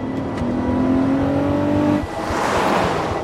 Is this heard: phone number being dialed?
no